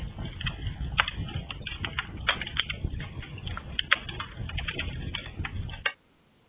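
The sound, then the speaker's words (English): A fire crackles steadily, with irregular sharp pops and snaps over a low, soft rumble of burning. It carries on at moderate loudness for about six seconds, then cuts off abruptly. “Our fire's burning and crackling along.”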